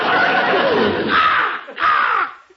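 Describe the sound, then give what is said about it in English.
A crow, Arnold, a talking crow in a bird shop, caws loudly, giving about three harsh, raspy calls in quick succession, the first one drawn out, with no voices around it. “Oh, that's Arnold, our talking crow.”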